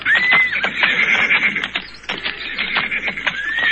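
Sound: horse neighing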